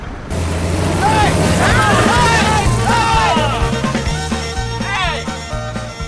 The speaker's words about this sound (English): As the truck disappears into darkness,